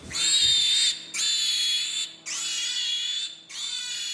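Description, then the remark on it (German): Four long, shrill piglet squeals in a conventional pig barn with artificial light and droning ventilation follow one another with brief breaks, each loud and steady in pitch, over a faint low rumble. No one speaks. “Kunstlicht, Dröhnen der Lüftung, Menschenstimmen. Schweinegrunzen, Ferkelküken.”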